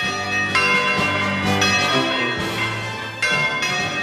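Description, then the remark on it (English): Church bells peal loudly and continuously, fresh strikes landing every second or so over a ringing wash of overlapping tones, with no voices present. “Fast forward to the 1940s, and when the victory bells rang out at the end of World War II, the new regime in Paris granted French citizenship to New Caledonia's Kanaks.”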